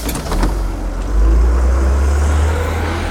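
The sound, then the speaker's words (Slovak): A bus engine at a station, on a bus bound for the village of Malá Lodina, rumbles low, swelling louder after a moment as it pulls away and then holding a steady, droning roar. “Na stanici sadli na autobus smerujúci do malej lodiny.”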